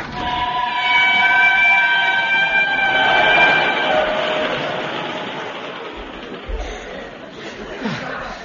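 A train pulls away, a sustained high metallic squeal riding over a steady rumble; the squeal fades after a few seconds and the noise gradually recedes.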